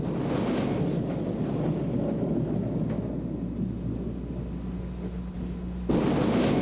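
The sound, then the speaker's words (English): Deep, continuous thunder from a couple of thunderstorms rumbles low and heavy, rolling steadily for several seconds before swelling into a louder burst near the end, with a broad noisy wash like wind or rain beneath. “It looks like we have a couple of good thunderstorms out here.”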